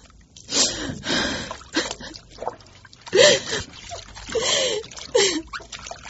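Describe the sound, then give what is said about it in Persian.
Water splashes and sloshes in short bursts as a big heap of clothes is scrubbed by hand, mixed with brief sighing or groaning vocal sounds between the splashes. “امروز باز با من گرستم این کالایی که مثل خرمن کود هستن آب و شوید.”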